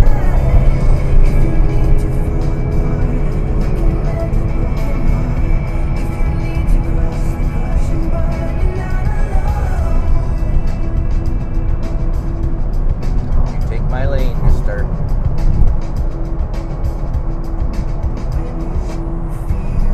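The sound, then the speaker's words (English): A Porsche sports car engine drones steadily from inside the moving car, with Porsche stability management turned off, its pitch climbing and dipping as the driver revs through the gears and works around other cars in traffic, with a sharper rising whine about three-quarters through. “Better turn off the Porsche stability management here. See if we can get into some trouble.”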